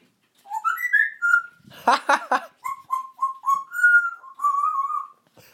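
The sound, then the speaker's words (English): A pet bird whistles up close: a rising opening note, a quick burst of raspy chirps, then a string of short, steady whistled notes in an uneven rhythm. “That was a nice little whistle.”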